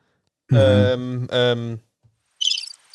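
Birds: two loud, drawn-out harmonic calls, then a quick flurry of high, thin chirps in rapid succession near the end; no one speaks.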